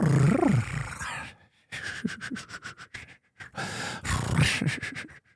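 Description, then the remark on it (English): A voice imitates the thrum of GIMPs, likened to the way cats purr: breathy, rapidly pulsing rumbles come in three bursts separated by brief pauses, with a raspy, fluttering texture and no words spoken. “And they thrum together is the term for it, which is kind of like the way cats purr.”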